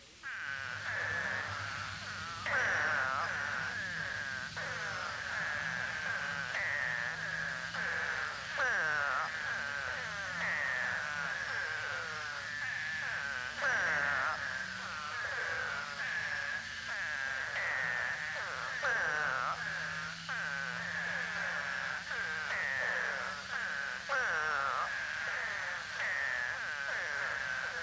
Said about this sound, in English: Spadefoots usually call for only a few days following torrential rains. Although it is most often heard in late winter or early spring, it may be heard following heavy rains at any season.